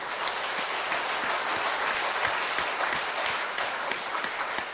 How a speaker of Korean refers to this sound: 할렐루야. 우리 하나님께 영광의 박수를 드립시다.